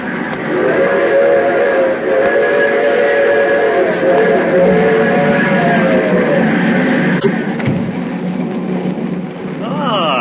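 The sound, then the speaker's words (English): A train rumbles along loudly and steadily while a long, sustained whistle sounds over it for several seconds, then fades as the clatter continues. “The train hasn't stopped since I got on.”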